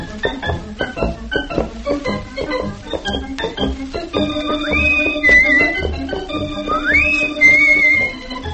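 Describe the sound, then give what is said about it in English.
A bouncy theme tune for Rusty Riley and his horse starts with a steady clip-clop rhythm of hoof-like percussion, then a bright whistled melody rises and slides over the beat, loud and upfront with no talking. “Give us music for his horse and Rusty.”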